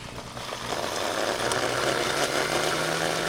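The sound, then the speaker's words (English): A blender motor whirs steadily, blending garlic with water to make a spray, with a loud, even drone and a gritty chopping texture that holds throughout. A low steady hum runs underneath, and no one speaks. “And throw that in the blender.”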